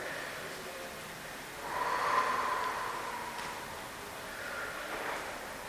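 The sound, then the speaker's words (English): Two slow, deep breaths, each a long airy whoosh swelling and fading, the first louder and longer than the second, with no talking; a demonstration of slow breathing to calm down. “Like sometimes when my kids are, and I'm in high school, like I will sometimes just start breathing.”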